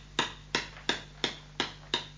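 hammer striking nails

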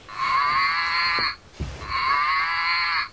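cow mooing

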